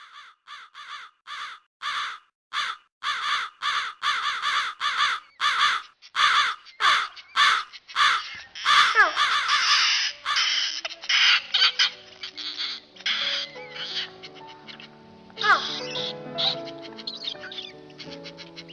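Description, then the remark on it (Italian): A dense flock of crows kept in an enormous, very clean room caws loudly and continuously, overlapping harsh calls in rapid bursts, with a chaotic chorus of squawks and chatter building as the birds crowd together. “Non avevo mai visto una tale quantità di corvi tutti insieme.”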